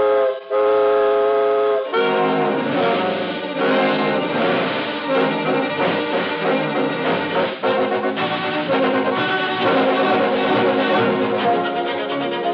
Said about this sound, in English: Steam pressure is up, and we're off on the second leg of our swift journey across America on this peace-tide Christmas Eve.